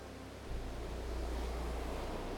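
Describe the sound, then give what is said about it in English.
A steady, soft wash of ocean surf, blue wavelets with white caps of foam gently sweeping up onto glistening sand and flowing back into the sea under warm sun, with a low rumble that swells slightly after the first half second, then holds even and continuous. No voices are heard. “And you watch as each wave gently caresses the glistening sand and flows effortlessly back into the sea.”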